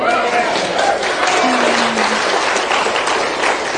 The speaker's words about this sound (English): I had somebody ask me, why does this church clap so much? Well, we're just excited. We ain't clapping for people, we're clapping for him.